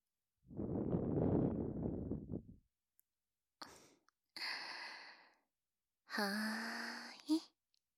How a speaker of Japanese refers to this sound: 最後に耳に吐息もかけていきますね。